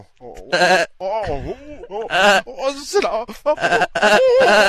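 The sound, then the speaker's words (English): A human voice imitates a goat bleating, producing a series of wavering, nasal vocal bursts for several seconds, with a brief spoken phrase mixed in. “Give me a sound like a goat.”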